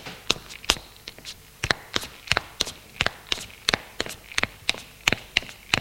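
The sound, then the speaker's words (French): Footsteps of a maid climbing the stairs of an apartment building, a steady run of sharp steps in a brisk, even rhythm, with no voices over them. “Elle monte les escaliers.”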